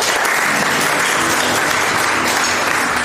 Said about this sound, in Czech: že jsou zvyklí, když se hraje zadarmo, že se aspoň zatleská. Kdyby se vám to skutečně moc líbilo, tak nám můžete zatleskat. Oni jsou na to zvyklí, kdyby byli překvapení, že se nic neděje.